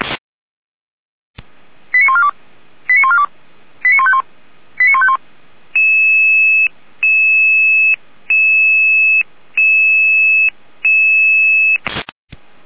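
Fire brigade radio alerting tones during radio checks for the fire brigades of the city of Weimar, Germany: four quick clusters of short electronic tone bursts, then six long, steady beeps in an even on-off rhythm. Loud, with a burst of radio static at each end and no talking.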